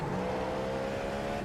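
A race car engine drones steadily as the car exits the pits onto the track, a sustained mechanical hum with faint pitch shifts as the car moves, no voices present.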